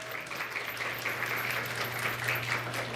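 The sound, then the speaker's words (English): An audience claps steadily for the writers whose stories were read, a dense, continuous patter of many hands that stays at an even, fairly loud level throughout, with a faint low hum underneath. “Please give a round of applause to all our writers.”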